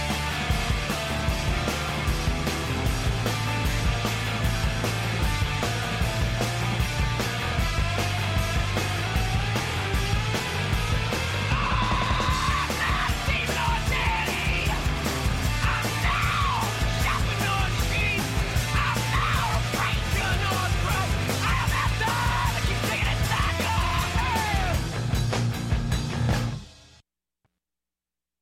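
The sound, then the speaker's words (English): A loud, dense early 2000s post-hardcore rock track from a band's release, with harsh yelled vocals over distorted guitars, pounding drums and a heavy bass line, playing at full intensity until it cuts off near the end. “they really had that kind of early 2000s post-hardcore sound”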